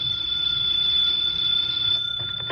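A telephone rings with a steady, shrill high-pitched tone that sustains unbroken for the whole moment, fairly loud over a low background hum, with no one speaking.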